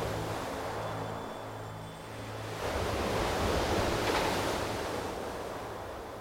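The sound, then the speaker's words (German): Ocean surf rolls in steadily, with a broad wash of waves breaking and overturning that swells louder midway and then settles into a continuous hiss of foam, with no voices. “Aber noch viel mehr fasziniert uns das Meer vor uns, wie die Wellen sich brechen und überschlagen und zur Gischt aufschäumen.”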